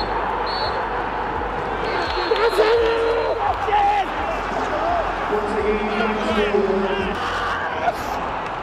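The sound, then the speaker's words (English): Steven Gerrard shouts and screams into the camera in loud, sustained bursts of celebration after a Rangers win at Celtic Park, over a constant roar of crowd noise, his strained voice rising above the din several times. “That noise at the end there, you probably remember it, Steven Gerrard screaming into the camera, unable to hide his passion.”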